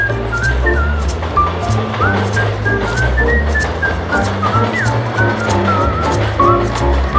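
A person whistles a wandering, high melody of sliding notes in a U-Bahn subway train, over the loud, steady rumble of the train, with regular clacks of wheels on the rails throughout.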